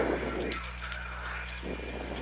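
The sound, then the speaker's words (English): A Navy helicopter, number 66, drones steadily as it prepares to touch down on the deck of the ship Yorktown in brisk, windy weather, a low engine hum beneath a broad, rushing roar of rotor wash and wind, with no voices. “Navy helicopter number 66 prepares to touch down on the deck of the Yorktown.”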